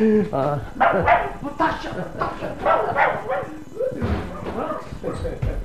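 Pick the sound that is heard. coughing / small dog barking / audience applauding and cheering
small dog barking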